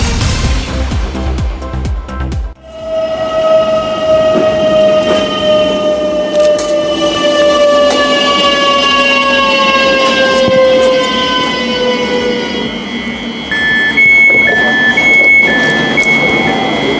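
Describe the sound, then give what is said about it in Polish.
A regional passenger train of the Silesian Railways runs on the S74 line between Tychy, Orzesze and Jaśkowice in Poland, its engine and wheels droning steadily while drawn-out tonal whines slide downward in pitch, with a brief high warbling tone near the end. No one speaks. “Po 24 latach przerwy pociągi pasażerskie na stałe wróciły na trasę Tychy - Orzesza - Jaśkowice.”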